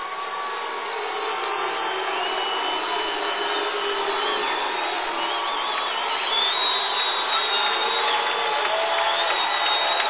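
A stadium crowd of about 6,000 people at a football game yells in a dense, continuous roar that stays loud and steady for the whole stretch, with no one speaking over it.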